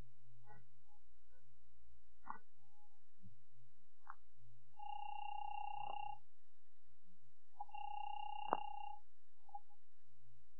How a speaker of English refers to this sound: In 5 minutes, I'm going to make a 5-cent phone call